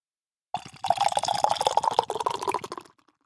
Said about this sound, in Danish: Ikke sådan verdens sorteste porter, når du sidder hælden op. Ja, den er måske nærmest sådan lidt brown ale. En mørk brown ale.